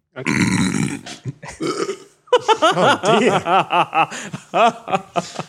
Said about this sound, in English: I'm going to burp.